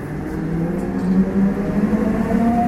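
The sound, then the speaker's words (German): A train pulls away from a small railway station in the Zürcher Unterland, Switzerland, its steady low rumble joined by a motor whine that climbs gradually in pitch, continuous with no voices. “Doch jetzt fährt der Zug ohne ihn ab.”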